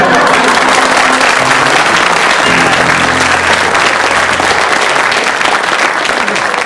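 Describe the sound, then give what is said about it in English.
Sustained, loud audience applause fills the whole stretch, a dense steady clatter of many hands clapping at once, with faint low tones humming underneath. “you have to agree that they got the greatest applause”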